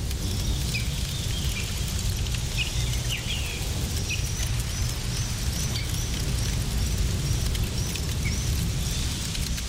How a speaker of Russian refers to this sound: Расслабьтесь, вы на природе. Сделайте погромче. Слышите, птички? На костерке жарится мясо. Просто наслаждайтесь звуками.